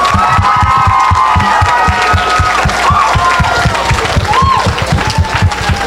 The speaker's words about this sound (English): The passion, the emotion, the creativity that was shared with us tonight by all the performers tonight was incredible. So please, can we give one round, a loud round of applause for all the performers tonight, please.